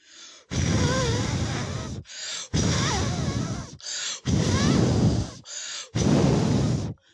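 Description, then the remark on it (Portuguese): A voice imitates the wolf blowing hard, like a gale, at a house built of stone and bricks: four long, forceful gusts of breath in a steady rhythm, each loud and rushing with a strained, groaning edge, separated by short inhales. “Novamente, ele encheu seus pulmões de ar e então fez uma verdadeira ventania.”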